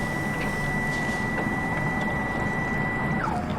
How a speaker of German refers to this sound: Der Drucker schnurrt.